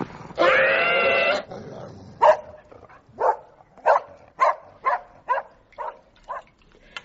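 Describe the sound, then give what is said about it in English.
An aggressive dog snarls with a drawn-out, tonal snarl as it attacks, then lets out a quick run of about nine sharp barks that gradually soften. No one speaks over it. “I have never, ever, in all my considerable years of working with dogs, seen such a display of unprovoked aggression and unwarranted violence.”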